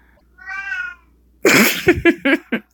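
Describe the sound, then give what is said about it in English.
A cat gives a single clear, drawn-out meow, followed after a short pause by a run of louder, choppy bursts of noise. “Oh, my kitty is just so curious as to who you are.”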